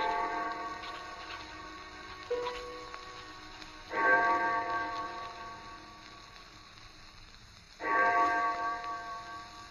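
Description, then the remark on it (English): A distant church clock bell, the clock of St. Jude's, strikes four o'clock slowly, each evenly spaced stroke ringing out and fading into a long, humming decay before the next. Fairly faint, with no voices. “I had no idea how long I worked until I heard the clock of St. Jude's in the distance. It was 4 o'clock”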